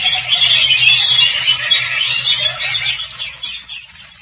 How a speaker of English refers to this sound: Senor. What? The birds.